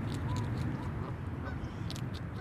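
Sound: geese honking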